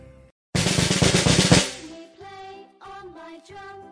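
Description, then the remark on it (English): A toy drum rattles in a fast, loud roll for about a second as someone plays it, then a voice follows with three short, evenly spaced syllables as if imitating the beat. “He starts to play the drum, making a d-d-d sound.”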